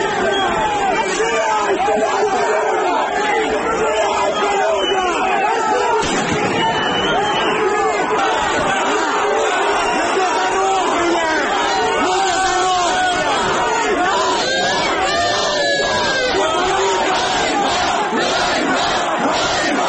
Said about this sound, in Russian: Военные пытались задержать, российские военные пытались задержать некоторых митингующих, но жители города помешали им это сделать с криками «Херсон – это Украина».